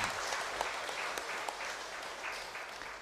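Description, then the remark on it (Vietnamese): Sustained audience applause of thanks at a collective wedding ceremony in District 10, a dense steady wash of many hands clapping with a few sharper individual claps standing out, holding at an even loudness throughout with no talking. “Hãy dành một tràng vỗ tay thật lớn để biết ơn.”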